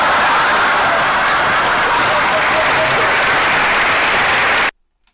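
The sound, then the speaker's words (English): Loud, steady audience applause after a joke for about four and a half seconds, a dense wash of clapping hands that cuts off abruptly into silence. “That always seems to get the crowd going.”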